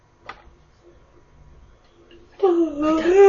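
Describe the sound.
A drawn-out, voiced yawn starts abruptly after a quiet stretch, its tone dipping and then holding steady with a moaning quality until the end. A brief soft click comes earlier.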